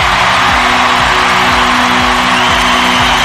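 A large crowd at a funeral in the United States for the activist Charlie Kirk cheers and applauds in a dense, continuous roar that stays loud and steady throughout, with whoops rising from the mass of clapping and no clear speech.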